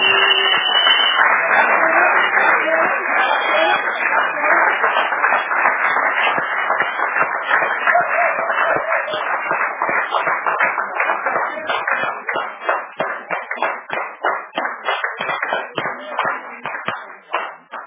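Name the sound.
audience applauding the choir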